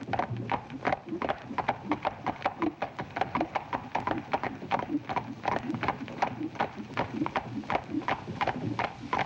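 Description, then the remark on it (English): Horse hooves clip-clop on a hard street in a steady, brisk rhythm that continues throughout, the sharp clacks clear over a low background rumble. “Fellas and horses have a real cushy job of it, all right, huh?”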